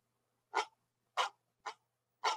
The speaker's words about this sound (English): It's not a real dog. It's just in my phone. Hopefully your dog can't hear that.